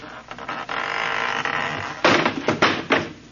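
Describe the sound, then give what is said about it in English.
A long, grinding wooden creak gives way to a loud crash and a few clattering thuds as a loose wooden door on a house porch is opened and falls right off its hinges, then quiet. “That door need a little tightening up, too. It fell right off.”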